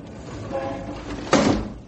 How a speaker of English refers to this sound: Shut that window. Here we are in a skyscraper, 40 stories above the street, and yet that traffic noise would drive you crazy. Shut the window, I say.